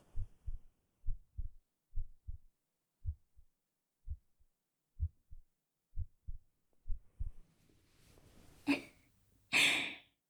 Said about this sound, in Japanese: ほら、聞こえない？今の私があんたと同じくらいすっごくドキドキしてるってこと。